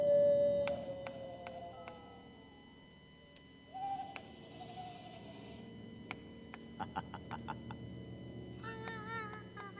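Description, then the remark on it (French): Synthetic, electronic cat meows from an electronic cat box: a long held tone, a rising whine a few seconds later, scattered sharp plucked blips, and a fast wobbling warble at the end, with no one talking. “Les deux contiennent des magnifiques bruitages de chats”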